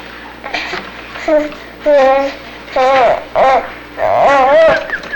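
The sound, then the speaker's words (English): A voice imitates a whistle for calling horses: about five short, wavering, high-pitched calls with a warbling pitch, loud against a quiet background and separated by brief pauses. “My uncle raised horses and he'd whistle. He'd whistle for them and they would come.”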